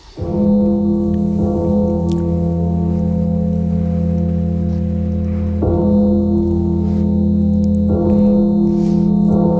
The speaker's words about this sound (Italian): Ma proviamo adesso a sentire il Poem Electronic di Varese, che comincia con dei suoni concreti di campana.